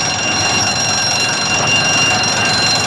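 alarm ringing

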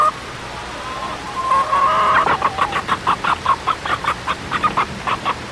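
hen clucking

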